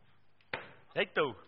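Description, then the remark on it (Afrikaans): A single sharp chopping thud on food rings out briefly, followed by two short voiced bursts from someone, over a quiet background. “Terwyl hulle so kap, gaan ons 'n bietjie saamstem, mag oom hom eet?”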